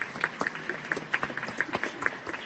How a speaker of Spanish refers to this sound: Un momento en que los asistentes están aprovechando para inmortalizar con sus teléfonos este gran momento, cuando se desatan los aplausos y la emoción de los asistentes.